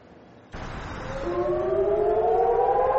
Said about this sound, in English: When sirens warn of a rocket attack, residents of Eilat in southern Israel have about 30 seconds to get a shelter.